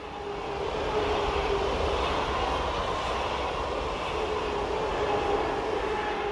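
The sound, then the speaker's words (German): A train rumbles past on the railway beside Lake Biel at Twann, a steady, loud roar of wheels and carriages that holds constant throughout with no speech. “Es liegt eingeklemmt zwischen der Eisenbahn und dem Bielersee zu Twann.”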